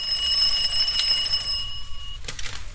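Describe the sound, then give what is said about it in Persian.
A wall telephone in a barbershop rings with a steady, shrill metallic bell for about two seconds, then cuts off with a brief clatter as the barber's apprentice picks up the receiver, over a low background rumble. “خوشنویس چشم به تلفن دیواری که زنگ می زند دوخته.”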